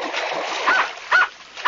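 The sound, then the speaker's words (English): A dog gives three short, sharp barks spaced about half a second apart, over a steady rushing, splashy background noise. “Can the dog get in?”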